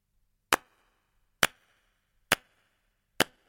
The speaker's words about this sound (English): Pattercake. Clap along with the rhyme.